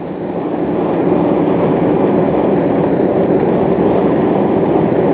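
A train rumbles past in a steady, loud roar, its broad low-frequency noise holding even throughout with a faint rhythmic rattle of the cars and no voices.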